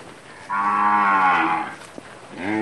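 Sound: cows mooing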